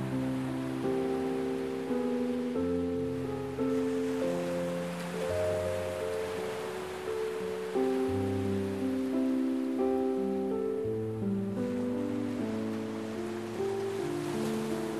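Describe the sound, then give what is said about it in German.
A steady, soft wash of ocean waves on the shore rolls continuously beneath gentle sustained musical chords, calm and even in volume, with no voices. “Du bist ganz entspannt und kannst einfach nur die Melodie des Meeres genießen.”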